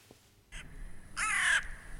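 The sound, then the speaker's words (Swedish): A crow, a red-listed species, gives two harsh caws, a short, softer one followed by a louder, drawn-out rasping call, with no talking and a quiet background. “Paret Birgitta och Dick Berg fick bland annat lyssna på ljudet från en rödlistad art, kråkan.”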